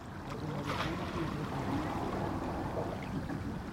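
Steady outdoor ambience beside a lake on a sunny day, a continuous low wash of gentle lapping water and soft wind, with faint murmurs mixed in and no distinct individual events.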